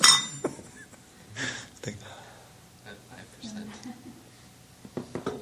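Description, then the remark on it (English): A glass of water is set down with a bright clink at the start, followed by a few softer taps and clinks amid quiet whispering and low murmurs. “Whoever brought the water, thanks.”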